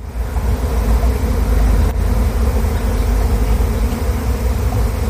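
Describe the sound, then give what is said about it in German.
A honeybee swarm that has settled in a garden, a few thousand and probably tens of thousands of bees, gives off a dense, unbroken buzzing drone, low and humming, holding at a steady, fairly loud level throughout, with one brief click partway through. “Bei ihr im Garten hat sich nämlich ein Bienenvolk niedergelassen, mal eben so ein paar tausend, wahrscheinlich zigtausende sogar von diesen Tieren.”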